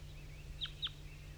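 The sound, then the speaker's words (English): At about 8:07, a male wild bird that had been singing gives two short, sharp, high-pitched calls about a quarter second apart to other wild birds down the hollow, standing out clearly over a steady low rumble and soft background hiss. “It's 8:07 now, and the wild bird male that was singing before is also calling now. to some other wild birds down the hollow.”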